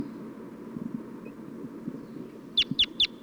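Three sharp, high bird alarm and flight calls ring out in quick, evenly spaced succession near the end, fairly loud, over a low, steady background rumble.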